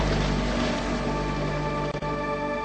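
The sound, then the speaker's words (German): A motorboat engine drones steadily, a continuous humming rumble with a tonal whine, even in loudness throughout, with no voices. The motorboat carries Inuit in the Arctic. “Oder die da hinten. Ein Motorboot.”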